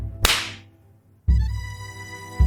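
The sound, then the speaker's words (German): A single sharp, bright hand clap, made on a count of three, cracks out and fades quickly, followed about a second later by a louder sustained tonal sound with rich harmonics that swells in and continues. “Und klatschen einmal auf 3, 2, 1.”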